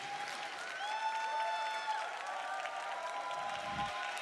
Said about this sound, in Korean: 박수로 모시겠습니다.